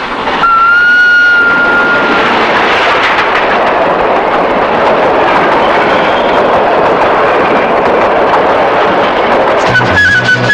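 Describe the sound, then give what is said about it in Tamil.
A train roars past a roadside in a steady, loud wash of rumbling, clattering rail noise, with a brief high horn tone sounding near the start. No one speaks. “பேசாம வண்டிய ஓரமா நிறுத்திவிட்டு ரயில் வருது, வேடிக்கை பாத்துட்டு போ.”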